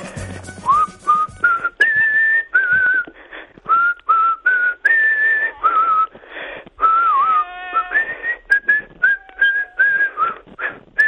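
A person whistles a melody of sustained, fairly high notes with short gaps and gentle pitch bends, steady and clear, with faint background noise and no talking.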